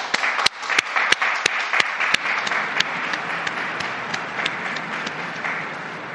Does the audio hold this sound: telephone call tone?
no